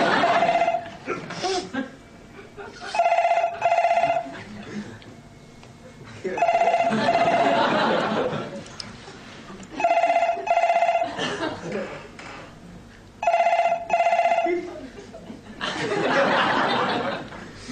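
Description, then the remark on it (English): A telephone bell rings at a workplace in four repeated bursts, each a fast double trill, fairly loud, with people talking and chuckling in the gaps between rings. “You know I can't leave the phones unattended.”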